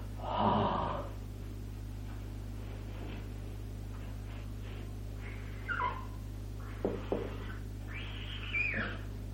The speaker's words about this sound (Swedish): Och en ljud som man producerar, som man gör om man andas ut.